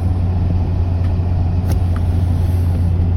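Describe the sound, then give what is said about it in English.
A Jaguar XJ car engine, started after its battery was charged, idles steadily, with a constant deep, low rumble and a few faint ticks over the top. Nobody speaks. “So I charged the battery, and now the engine starts, but there you go.”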